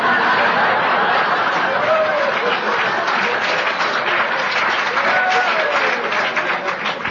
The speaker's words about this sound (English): I would have preferred not such a strong applause of agreement. Could anyone say, "No, no"?